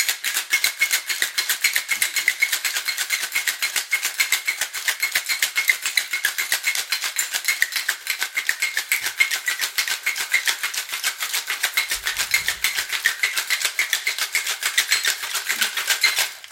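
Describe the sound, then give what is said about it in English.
A cocktail shaker rattles with ice in a fast, steady rhythm for the whole stretch, a bright clattering chatter that stays evenly loud, with no voices over it. “Me, I think you should shake until your arm gets really tired of it or your fingers are freezing.”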